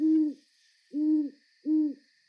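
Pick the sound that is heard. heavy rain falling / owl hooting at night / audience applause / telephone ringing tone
owl hooting at night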